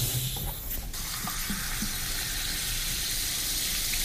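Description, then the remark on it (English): Sparkling water being poured into a glass to top up a drink of fresh lime juice, pomegranate seeds and orange slices, a steady rush of liquid with a faint fizzy hiss that runs evenly for a few seconds, no voices. “And the last step is just to top up with some sparkling water.”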